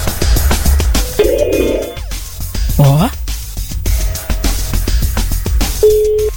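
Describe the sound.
Short electronic ringback tones sound in brief bursts on an outgoing call from the radio station Rádio Metrópolis to a listener during an on-air cash promotion. A man keeps talking loudly over them, with a little background music.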